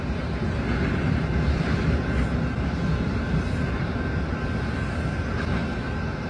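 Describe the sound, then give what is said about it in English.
A long military freight train carrying a lot of military equipment rolls past in Missouri in a steady, heavy low rumble that never lets up, with a faint thin whine running above the roar. No one speaks. “This is a big train, and that is a lot of military equipment, folks.”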